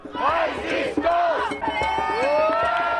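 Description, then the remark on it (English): Tens of thousands of marchers in Paris, protesting a new jobs law for young people with banners, balloons, horns and drums amid sporadic cloudbursts, chant and shout in unison, many voices rising and falling in rhythmic bursts with sustained wavering cries, loud and continuous throughout. “Sporadic cloudbursts couldn't dampen the enthusiasm of marchers in Paris who came out by the tens of thousands with banners, balloons, horns, and drums to send a message to their prime minister.”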